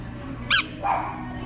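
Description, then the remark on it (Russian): A dog gives two short, high yelping barks about half a second apart, moderately quiet against a faint background hum, with no talking. “У нас пес любит разнообразие.”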